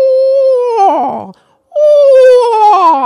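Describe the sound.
An audience in a stadium theater imitates a screech owl's whinny: two loud, strongly harmonic wails, each starting high and sliding downward into a wavering trill, separated by a brief pause.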